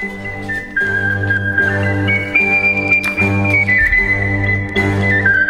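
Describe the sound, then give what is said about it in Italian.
A bright whistled theme-tune jingle melody glides between a few sustained notes over a steady, bass-heavy musical backing, playing loud and continuously for several seconds with no voices. “Sei talmente bella che c'è anche la sigla che ti fischia dietro.”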